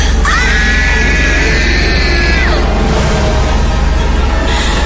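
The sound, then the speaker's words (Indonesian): A loud, piercing human scream holds a steady high pitch for about two seconds, then breaks off into a rushing, noisy tail, with no talking. “Seketika itu juga aku berteriak dengan kencang.”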